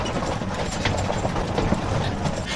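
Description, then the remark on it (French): Horses' hooves clip-clop unevenly as they pull a wagon up a slope, the scattered steps set against a steady, low rolling rumble of wheels, moderately loud, with no one speaking. “Alors je vais pas pouvoir m'arrêter parce que c'est en côte et c'est dur pour les chevaux de redémarrer dans la côte.”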